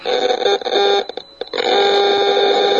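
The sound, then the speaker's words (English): A radio frequency detection meter blares a loud electronic alarm in a steady, harmonically rich buzzing tone as a cell phone is taken out of airplane mode, jumping from slight to extreme exposure readings. It briefly dips and stutters midway before resuming at full strength. No one speaks. “This is a $400 radio frequency detection meter.”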